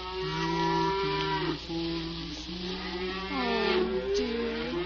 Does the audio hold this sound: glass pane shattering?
no